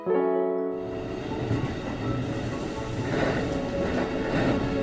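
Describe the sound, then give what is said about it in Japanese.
An electric train rumbles along the rails with a steady, loud roar, opening with a sustained tonal whine like braking or motor hum before settling into continuous rolling noise, in the early morning on a day as winter approaches. “冬が近づいているある日、僕はある人に会うため電車に乗った。”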